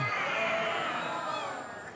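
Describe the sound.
A crowd imitates a lion's roar together during a telling of Daniel cast into the den of lions, a sustained, loud, blended growl of many voices that holds steady for about two seconds before slowly easing off.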